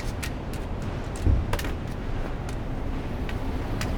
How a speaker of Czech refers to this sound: To bylo auto.